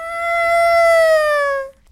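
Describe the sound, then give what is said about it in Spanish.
A human voice imitates a cat's closed-mouth, throaty meow made with the throat: one sustained, nasal, slightly falling tone lasting under two seconds, fairly loud, with no talking over it. “También de repente hacen un ruido como un maullido, pero con la boca cerrada, con la garganta.”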